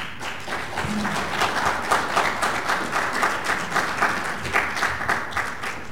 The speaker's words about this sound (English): It runs in a Microsoft environment, and you can feel free to applaud. Thank you for your time.